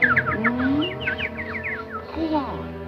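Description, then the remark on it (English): A flock of agitated birds flaps and flutters around a queen, with rapid, repeated chirps and squawks sweeping up and down, loud over a low sustained musical hum. “The birds flap and flutter around the queen.”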